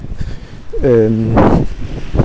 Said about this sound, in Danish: Og som du måske kan høre, så blæser det også lidt.